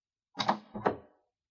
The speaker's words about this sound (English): I can hear someone. There's someone outside the room. The door's opening.